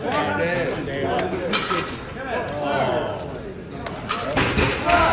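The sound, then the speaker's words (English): A chair topples over backwards as a man gets up, with a sharp wooden clatter and a few thudding knocks, mixed into a lively room where several people are talking and reacting. “I think when he got up, like his chair like threw backwards.”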